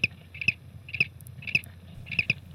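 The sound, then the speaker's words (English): A lone cricket, recorded on tape, chirping in a steady, evenly spaced rhythm, each chirp a short bright high-pitched trill, repeating about every half second over a low background hum. “Let's hear that single cricket recorded on tape just one more time.”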